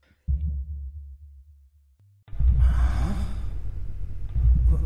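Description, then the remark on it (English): Deep, muffled thumping like a heartbeat, starting as soft low pulses and then swelling into a loud, rumbling pounding with a breathy hiss layered over it. No one speaks. “There was the sound coming from all around me like banging or a heartbeat”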